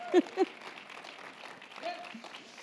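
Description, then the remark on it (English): An audience claps their hands in a steady, dense wash of applause, while a few voices call out briefly over the clapping. “Come on, somebody clap alguien your hands. Tiene que aplaudir.”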